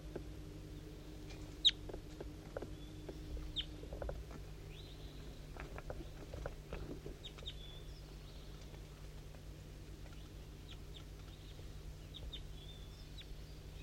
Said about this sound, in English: So recording, there's a wild bird coming around here. I can hear it kind of close up here, but I don't know exactly where it is. It's pretty foggy and I can't really tell what's going on.